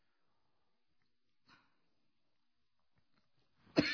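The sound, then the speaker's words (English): Mostly quiet, then one faint throaty burst partway through and a loud, harsh cough that breaks out right at the end. “Pause for a minute here. I do have a bad cough.”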